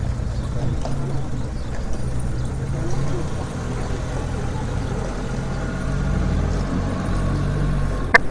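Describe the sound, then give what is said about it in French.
A farmer sets off with his horse and cart, the cart rolling along with a steady low rumble of wheels and the faint clatter of hooves running underneath throughout, moderately loud and continuous with no voices. “Paysan part avec son cheval et sa carriole.”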